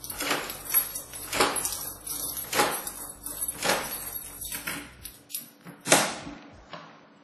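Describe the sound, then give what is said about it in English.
The door of Rick's flat being opened by Rick at midnight, with a series of clattery knocks and rattling handle sounds, ending in one louder clunk as it swings free. No voices. “Rick opened the door.”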